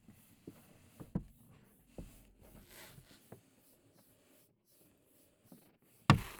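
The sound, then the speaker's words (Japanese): Crinkly paper rustling from a paper bag being slowly lifted upward, soft, scattered crackles that ease off midway, then one sharp, louder crumple near the end. “特別に紙袋を取ってあげるわね。”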